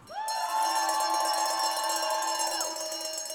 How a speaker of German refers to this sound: Kurz danach betritt ein Schweizer Turner die Fläche. Kuhglocken untermalen das Jubeln, bevor er anfängt.